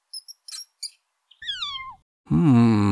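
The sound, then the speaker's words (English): A cat meows once with a falling, drawn-out cry, after a few short high chirps, then a louder, harsher sustained yowl follows right away. No one speaks. “I have a bird. And look, a cat and a mouse.”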